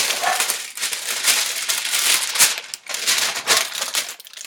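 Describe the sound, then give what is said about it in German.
Baking paper crinkles and rustles as it is pressed into a round springform pan to make a Nutella cake, a continuous bright crackling with irregular bursts and a few short pauses, fairly loud and with no voices. “Zuerst heizst du den Backofen auf 160 Grad Umluft vor und reißt die Springform mit Backpapier aus.”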